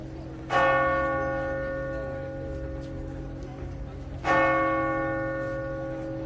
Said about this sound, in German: Und mit dem Glockengeläut aus Lourdes sind wir auf den Besuch von der Melsergrotte eingestimmt worden.